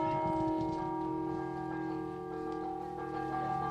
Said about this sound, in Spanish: El oficio de campanero se aprende oralmente, así se perpetúa la manera de tocar las campanas, pero esta forma de aprender también ha provocado que muchos toques se hayan perdido, como la señal de tormenta.